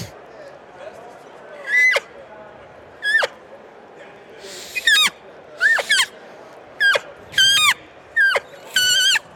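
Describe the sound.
About eight short, high-pitched cow calls blown on a reed call, each starting on a high note and dropping off sharply as the caller pops off the reed, spaced a second or so apart.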